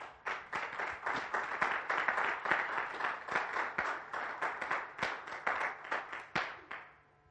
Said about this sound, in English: We have a little rule at Next Level Church. When one person starts to clap, if everyone could just follow along, because it's really awkward for me that they're clapping so loud, and I look back, and that whole section's just staring at me